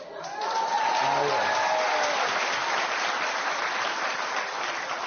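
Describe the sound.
An audience breaks into sustained applause, a dense wash of clapping that swells quickly and holds steady, with a few voices audible underneath at the start.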